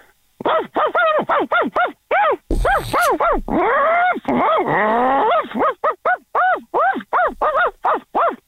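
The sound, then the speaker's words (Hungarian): A person imitates a small dachshund's barking with a fast, loud string of high yappy barks, some run together into longer yelps, pausing only briefly before starting again. “Így van, kis testű kutya, és ez egy tacskó szeretne lenni.”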